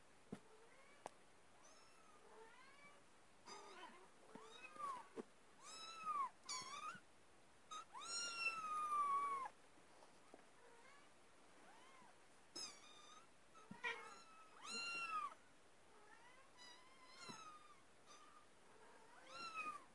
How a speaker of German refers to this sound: die sieht auch krank aus. Ich weiß nicht, was mit der Katze ist. Sie sieht nicht gesund aus als Katze.